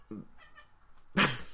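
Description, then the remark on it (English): A female cat gives a short, soft chirp and then a louder, bright meow, two brief vocalizations over a quiet background. “I'm sure you just heard my cat.”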